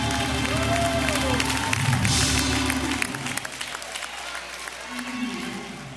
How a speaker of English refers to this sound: I wish somebody would get happy in Chicago and clap your hands and praise the Lord.